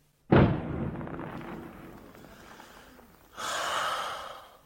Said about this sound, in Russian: Вечером, когда на Приморском бульваре около павильона играет егерский духовой оркестр, и по зеленоватой воде разносятся звуки какого-то старинного вальса и звуки выстрелов с бастионов, которые странно вторят им.